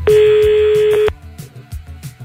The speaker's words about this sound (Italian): Ecco, intanto il telefono squilla, un ne poco, lascia fare.